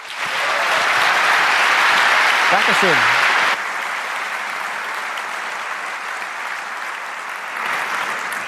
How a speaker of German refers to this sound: Und damit begrüße ich ihn und freue mich auf einen spannenden Talk und bitte euch nochmal um einen ganz, ganz herzlichen Applaus